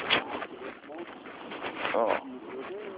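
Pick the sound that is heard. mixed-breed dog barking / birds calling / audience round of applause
birds calling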